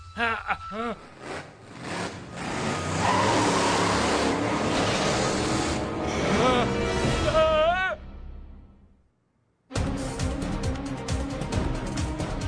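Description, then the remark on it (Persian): A truck's engine roars loudly for several seconds as someone drives it away, then fades off until it falls silent. A brief swooping tone cuts through near the end, and a new busy sound starts after the pause. “هی، با کامیون من کجا میری؟”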